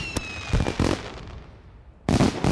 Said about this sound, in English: Yay! Or launching those celebratory fireworks.